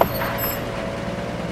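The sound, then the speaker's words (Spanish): A garbage truck engine idles in a narrow street with a steady low rumble and a faint high whine, continuous throughout, with no one speaking. “Joder, el camión de la basura.”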